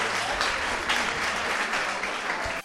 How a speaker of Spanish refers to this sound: Bueno, un fuerte aplauso.